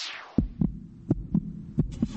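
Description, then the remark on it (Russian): A heartbeat sound effect in a car advertisement for the Mazda 3 and Mazda 6 Impulse Line: three deep lub-dub double thumps at a quick, steady pace over a low hum, opened by a brief descending whoosh. No voices. “Слышишь, сердце забилось чаще.”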